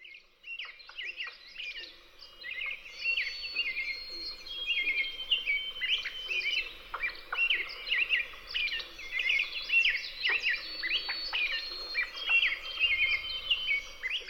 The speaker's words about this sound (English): Vocal, as well as visible, birds can often be recognized by their songs. Here are the calls of some of our most common woodland birds. Listen for them as you continue along this trail.